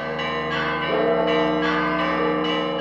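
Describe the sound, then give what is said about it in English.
Church bells of the Church of the Holy Sepulchre in Jerusalem's Old City peal continuously, summoning worshippers to Easter Mass, several overlapping strikes ringing out with rich sustained tones and a steady, loud clangor, no voices present. “A short time later, bells summoned worshippers to Easter Mass at the Church of the Holy Sepulchre in Jerusalem's Old City.”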